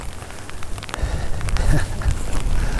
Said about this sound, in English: And I've now got the wind at my face. and the rain blowing at me.